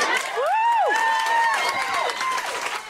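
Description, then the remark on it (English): A meeting audience bursts into loud, sustained applause, some of the loudest of the night, a dense wash of clapping with a few raised voices or whoops rising over it throughout. “And then that applause, you say, at the end of that remark was some of the loudest of the night at that meeting, and cathartic for the white parents to hear a black person say exactly what they had to say.”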